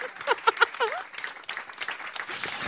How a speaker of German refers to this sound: Und jetzt klatschen wir. Mein Applaus ist so toll.